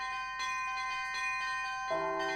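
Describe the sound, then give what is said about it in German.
A cast bell of an odd-looking shape rings with a long, steady metallic hum, struck again several times so each new strike blooms over the lingering tone, with a fresh deeper note near the end. Moderately quiet, no voices. “Man schlägt ein komisch aussehendes Teil aus irgendeinem undefinierbaren Material an und es klingt.”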